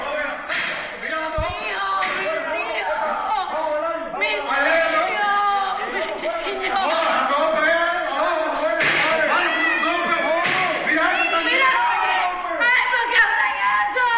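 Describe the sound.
A woman screams amid children crying, the voices overlapping in a loud, continuous, chaotic din that stays close and frantic throughout, with other raised voices shouting in the mix.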